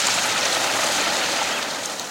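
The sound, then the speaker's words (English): A large starling flock makes a dense, unbroken wash of chattering noise, like a steady rushing hiss that holds an even loudness throughout, with no voices. “Do you think all this noise should be called a murmuration of starlings?”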